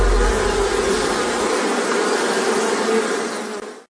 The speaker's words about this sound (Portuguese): sabe qual é o animal mais perigoso do mundo? É o mosquito. Ele pode transmitir a dengue, zika, chikungunya.